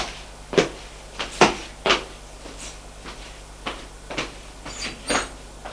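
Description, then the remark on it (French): A door being shut, heard as a string of irregular wooden knocks, clunks and latch clicks over several seconds, moderately loud against a low steady hum, with no voices. “Elle ferme la porte.”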